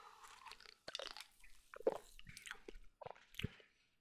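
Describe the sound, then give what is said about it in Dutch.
A sip of fizzy sparkling soda being tasted: short slurping pulls mixed with crackly, popping fizz, several brief bursts over a few seconds, with no talking. “Dus daarvoor moet ik een slokje nemen.”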